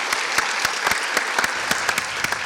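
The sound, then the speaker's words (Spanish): An audience applauds the three winners of a contest in a dense, steady burst of clapping, with a few sharper claps standing out over the continuous wash of hands. No one speaks. “Un aplauso fuerte para los tres ganadores de este concurso.”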